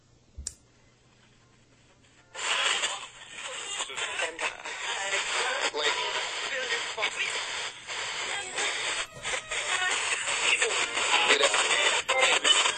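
A single sharp click as a box with a TEC tuner is switched on, then after a short pause the radio tuner bursts into loud, continuous hissing static that stutters with quick dropouts and faint warbling tones as it sweeps through stations.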